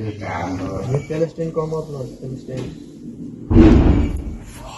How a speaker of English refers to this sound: We heard the sound of helicopter planes and missiles and just bombarding, sound of guns, sound of bombs, sometimes close, sometimes far away.